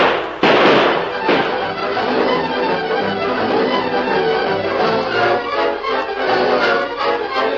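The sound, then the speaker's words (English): A burst of gunshots fired by a group of men at a fleeing horseman: two loud, sharp bangs early on, followed by scattered quicker shots within a dense, noisy clatter that carries on steadily to the end. “Shoot at him, boys.”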